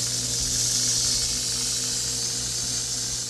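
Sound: rattlesnakes rattling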